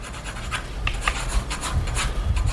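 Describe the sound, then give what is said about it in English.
Quick, scratchy pencil strokes rasp across paper in short irregular bursts as a face is sketched, with narrow eyes, hair buzzed close to the scalp and a thin, light mustache. It is a steady sketching sound with occasional brighter scrapes and a soft low rumble underneath. No one speaks. “I watched Burke's killer, or at least Forrest's memory of him, come to life on paper, the sharp pencil strokes showing narrow eyes, hair buzzed close to the scalp, and a thin, light mustache.”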